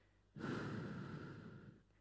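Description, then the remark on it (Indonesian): A single long, deep exhale after drawing a breath in, a steady breathy rush lasting about a second and a half before fading out, fairly loud with no talking. “Keluarkan.”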